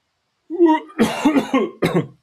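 A close, loud fit of coughing: a brief voiced groan, then three or four harsh, raspy cough bursts in quick succession, with a short gap before the final one.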